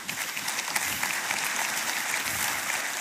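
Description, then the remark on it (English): An audience at Summit Church claps steadily in a dense, continuous burst of applause, loud and even throughout with no pauses and no voices standing out. “I gave you one free one. Let's wait to the end to clap the rest.”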